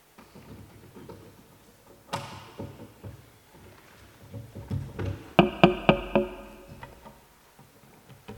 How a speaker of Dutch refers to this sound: ik moet even een oplader aan mijn laptop hangen.